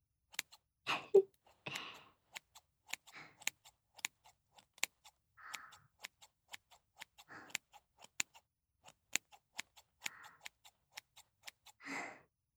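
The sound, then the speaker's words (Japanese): Crisp scissor snips cut hair while trimming the top and back, in a steady stream of sharp clicks, with occasional soft rustles of hair between them; no one speaks. “ハサミの音って、なんだか聞いていると少し眠くなってこない？”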